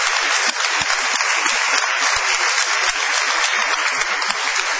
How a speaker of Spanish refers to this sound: Extendamos el aplauso para adjudicárselo a